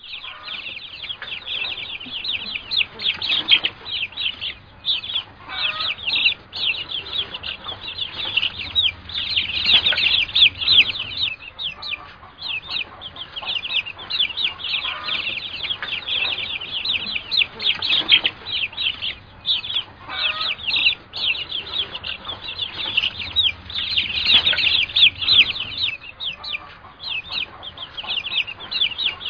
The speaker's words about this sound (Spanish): Entre todos los sonidos que vas a escuchar, trata de identificar solo el sonido de la gallina. Pon atención. Se te pide que te concentres en el sonido del cacareo de la gallina.